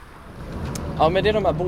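A small tourist ferry's horn toots three times in quick succession as it departs from Strandvägen in Stockholm toward the island of Stora Fjäderholmen in the archipelago, loud and reedy over a low background rumble of engine and wind.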